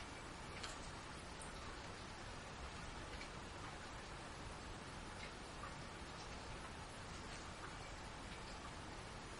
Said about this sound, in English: It's raining.